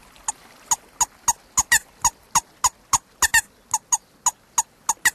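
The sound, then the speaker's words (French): A rubber bellows bird call, tapped against the forearm so its air vibrates a reed inside a small metal piece, squeaks out a steady run of about fifteen sharp, high, reedy chirps, evenly spaced with a few doubled, imitating a moorhen's call, with no talking. “Là, vous le faites couiner en tapotant votre apô sur l'avant-bras.”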